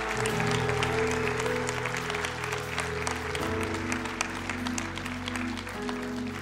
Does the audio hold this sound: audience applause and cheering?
yes